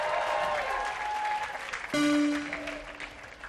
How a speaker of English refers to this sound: Round of applause for … on the bass guitar, everyone.